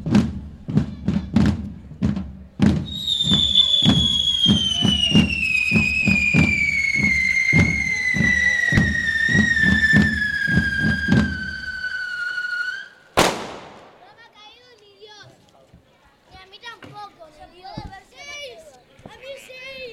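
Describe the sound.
A rapid, steady string of firecracker bangs pops under a long descending whistle, ending in one sharp, loud blast, followed by quieter voices and scattered crackles.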